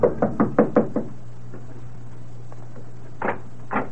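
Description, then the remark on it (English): Five quick, firm knocks on the door of Frank Wayne's house in a rapid burst, then a pause over a low steady hum before two more separate knocks follow. “Hurrying up the steps, she knocks on the door.”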